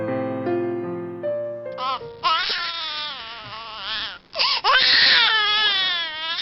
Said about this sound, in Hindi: तुम्हारा मुन्ना तो कल रात से रोए जा रहा है, कुछ करते क्यों नहीं?